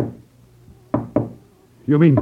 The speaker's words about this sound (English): those knocks you heard were a spirit wrapping device